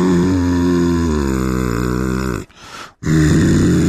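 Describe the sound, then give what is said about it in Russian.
A man's voice imitates a BMW 340 car pulling away, a low, buzzing, engine-like drone with a slowly shifting pitch, broken by a short breathy pause before the rumble resumes loudly. “Вчера забрал машину, которая делает вот так, когда ты на ней отъезжаешь, она делает так.”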